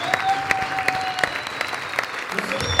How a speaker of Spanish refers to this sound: Un aplauso, por favor.